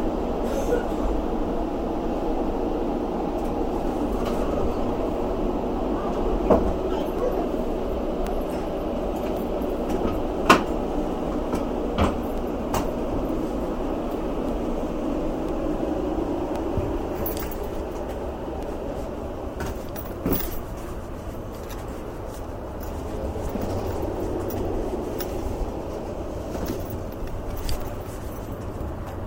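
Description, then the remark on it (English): A train rumbles steadily for the whole stretch, with scattered metallic clanks and brief squeaks over the low roar as it comes to a safe stop. No one speaks. “Just that, since the train comes to a safe stop.”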